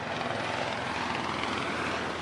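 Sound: police helicopter flying overhead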